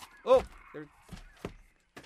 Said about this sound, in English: David just opened the publicity folder for Grace Point, and it started making it sound like seagulls. Seagulls.